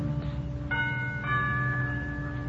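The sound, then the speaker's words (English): A doorbell at the front door of a villa chimes, its ringing tones entering in two quick steps and sustaining steadily over a low, constant background hum, with no one speaking. “I move across the road, push open the heavy iron gates, hurry up the path to the front door of the villa, and I lean on the bell.”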